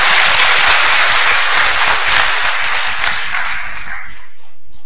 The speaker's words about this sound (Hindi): ताली तो बजा दो भाई स्टेज पे आए।